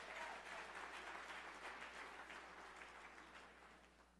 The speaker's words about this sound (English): I know that's just a bunch of older people clapping, but they with me.